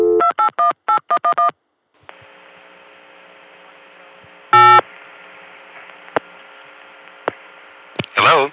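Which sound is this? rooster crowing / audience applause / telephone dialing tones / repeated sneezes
telephone dialing tones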